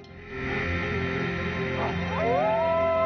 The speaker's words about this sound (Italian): Rosie ulula con i suoi figli.